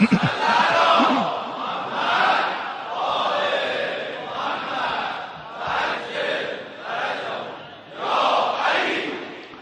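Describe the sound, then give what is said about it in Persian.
A large crowd chants an Islamic salawat together in loud unison, voices rising and falling in steady repeated phrases for the whole stretch. “حالا یه صلوات دیگه که بفرستیم، با اون دو سومش چیکار کنیم؟”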